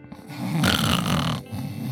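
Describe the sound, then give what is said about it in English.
A single long, rough snore from a woman asleep in a car parked at a pull-off overlooking the ocean in the Palisades, with a raspy, rattling inhale that swells loudly in the middle, then trails into quieter breathing, with no talking. “She was snoring. She was sleeping.”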